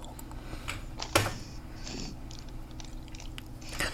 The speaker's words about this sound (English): Pass the keyboard or note taker to player 2. Press any key to continue.